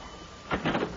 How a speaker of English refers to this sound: As soon as the door opened, I put my foot in it.